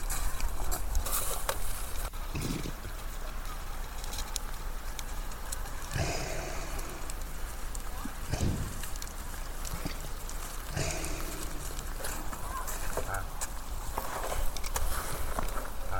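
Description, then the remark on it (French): A reindeer breathing nearby: a few loud, breathy whooshes a couple of seconds apart over a steady, rustling outdoor noise, with no one talking. “Voilà, bah là, je vous fais entendre la respiration d'un renne qui est juste à côté de moi.”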